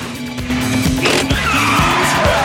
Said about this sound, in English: Jean rapidly reverses and sets off in the other direction, the sporty red model swerving and screeching across the road.